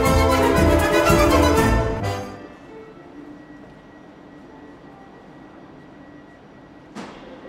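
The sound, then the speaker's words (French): A loud, dense rush of a Paris Métro line 1 underground train fills the first two seconds, then drops to a low rumbling hum of a carriage interior, with a brief sharp clack near the end. “Entrez dans la ligne 1 du métro et descendez à Saint-Mandé.”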